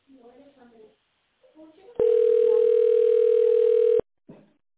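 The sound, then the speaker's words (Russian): A telephone ringback tone, heard while waiting for a secretary at the company A1 Team to answer, sounds once as a steady, mid-pitched hum lasting about two seconds, loud and unbroken, with a voice speaking just before it and again right after. “Или дождитесь ответа секретаря.”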